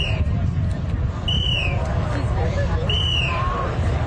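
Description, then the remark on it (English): Short, shrill whistle blasts at intervals, about three of them, blown by crews holding the strings of giant Macy's parade balloons during a test in the parking lot of MetLife Stadium, New Jersey, ahead of the Thanksgiving Day parade, over a steady background of outdoor crowd murmur and rumbling noise. “But the sound of whistles could be heard directly.”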